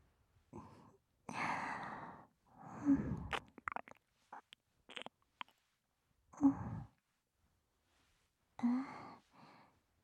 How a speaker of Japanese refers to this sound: あくび。